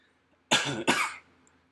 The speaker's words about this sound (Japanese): 今日咳した回数かなり少なくなったね。よかった。ほんとよかった。お聞き苦しい声をすいませんでした。